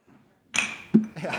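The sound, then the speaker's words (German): Glasses clink together in a toast in front of a microphone: a bright, ringing ping that sustains briefly, followed by a second softer clink and a short low knock, with faint voices around it. “Ertragt ihr das, wenn wir jetzt kurz anstoßen?”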